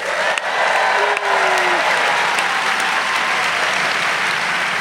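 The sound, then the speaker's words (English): Sustained applause from a live audience at the Norse Theater in San Francisco, a dense steady wash of clapping at high volume for several seconds, with a faint whistle cutting through briefly. “As you can hear, we are live. We're live at the Norse Theater in San Francisco in front of the largest crowd in GabFest history.”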